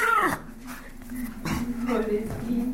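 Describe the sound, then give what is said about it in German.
A dog named Paco whines and whimpers in high, wavering tones, broken by a few short barks, with a steady low hum and voices faintly in the background. “viel Zeit, sich mit ihrem Hund Paco abzugeben.”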